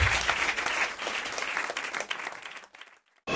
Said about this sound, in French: Merci. Un tandem incroyable, Monique Pantel et Isabelle Motro. Sous vos applaudissements, comme aurait dit Jacques Martin.